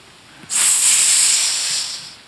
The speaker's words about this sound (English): Unfortunately, the hissing, the whispers of the tempter,